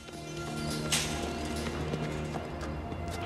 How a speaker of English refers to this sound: The tramp stops, hearing their footsteps.